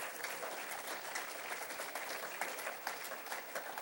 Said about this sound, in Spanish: Oiga, hermano, eso merece un buen aplauso, yo creo, ¿verdad, hermano?